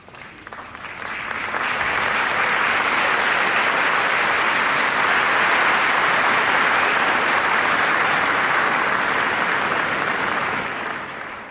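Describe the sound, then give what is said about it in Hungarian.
A large audience bursts into sustained, thunderous applause marking the end of the audience in the Paul VI Hall, rising within the first second and holding steady at full intensity for about ten seconds before starting to ease off, with no voices heard. “Kedves hallgatóink, ezzel a nagy tapsviharral ér véget a mai napon is az audiencia a 6. Pál teremben.”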